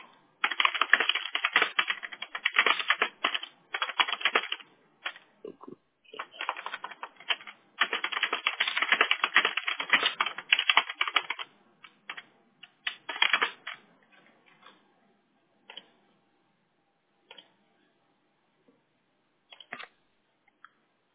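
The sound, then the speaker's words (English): Rapid typing of a note on a computer keyboard in dense bursts of clicking keys for about thirteen seconds, then thinning into scattered individual keystrokes with pauses between them. “Go in there while I'm typing up this note, okay?”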